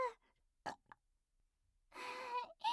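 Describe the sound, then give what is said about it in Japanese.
A couple of short breathy puffs, then a long, rough, voiced burp that rumbles for about half a second, breaks briefly, and resumes. No speech. “おちんぽにあったかいゲップが当たって気持ちいいね。”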